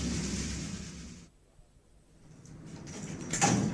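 door being closed

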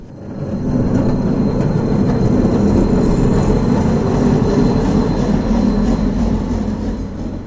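tram

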